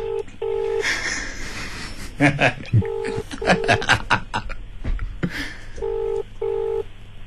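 A phone on speaker dials out, its electronic ringing tones sounding in paired bursts three times, with muffled voices and clatter filling the gaps between rings.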